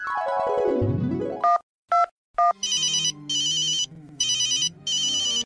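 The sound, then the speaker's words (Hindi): A phone's electronic ringtone plays alone as a call is placed to the head of a self-help group (SHG): a descending melodic sweep, three short chirping beeps, then repeated bursts of bright trilling rings with brief gaps, clear. “सुनते हैं नीलिमा SHG यानी स्वयं सहायता समूह की प्रमुख से फोन पर क्या बात कर रही है।”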